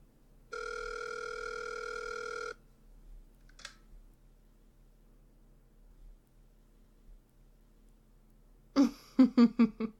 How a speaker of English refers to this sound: Go on. Dial his number on your phone and I'll listen.